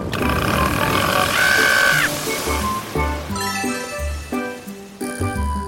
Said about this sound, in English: There was an old lady who swallowed a wave. Swallowing a wave was such a big hassle. That she suddenly burped.